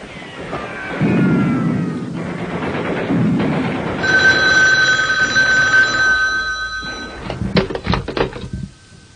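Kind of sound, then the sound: signal or alarm, telephone ringing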